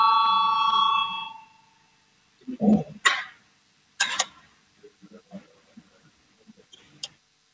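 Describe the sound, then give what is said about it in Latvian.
A parliament voting call bell rings in one loud, steady tone for about a second, called before a vote on a deputy's proposal, then stops, leaving quiet with a few thumps, shuffles and faint murmuring. “Lūdzu zvanu balsosim par 212 deputāta Valainis priekšlikumu.”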